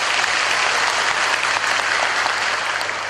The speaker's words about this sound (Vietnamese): A-di-đà Phật, cho một tràng pháo tay.